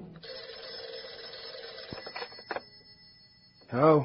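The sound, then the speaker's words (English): An old-style telephone bell rings at night in a continuous metallic trill for about two seconds, then a clunk as the receiver is picked up, and a voice begins speaking. “And the next thing I knew, I was wakened by the phone ringing.”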